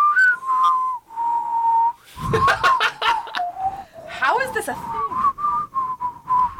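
People whistle a song melody in clear, sustained notes that glide up and down, briefly broken mid-way by breathy, noisy bursts before the tune carries on, fairly loud.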